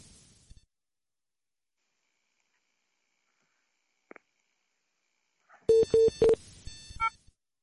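After a long stretch of near silence, a telephone line sounds three loud, short electronic beeps in quick succession as a phone call drops, followed by a brief burst of fainter tones; no one speaks.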